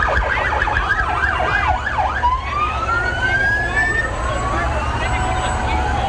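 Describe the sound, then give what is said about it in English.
A siren on fire engine seven blares, switching from a rapid warbling yelp to a long rising wail, over a steady low rumble of traffic and engine noise. “And this looks like engine seven.”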